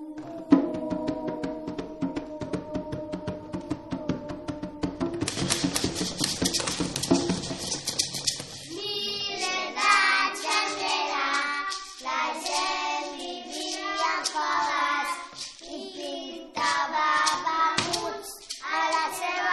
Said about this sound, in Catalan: Més endavant van començar a utilitzar sons que aconseguien per percussió, és a dir, colpejant uns objectes contra uns altres, contra el terra i picant de mans. Ho feien així, escolteu.